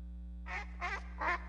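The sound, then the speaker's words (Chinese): A duck quacks three times in an even rhythm, each nasal quack short and distinct, set against a steady low electrical hum. “三只小鸭，三只小鸭，呱呱呱呱呱呱，开口笑”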